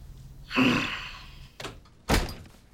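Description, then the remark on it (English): A door swings open as someone enters, with a broad rattling whoosh, followed by a short knock and then a heavier thud about a second and a half later, with no talking. “You by the door? You have your key.”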